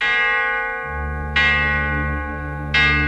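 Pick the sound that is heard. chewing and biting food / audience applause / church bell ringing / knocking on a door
church bell ringing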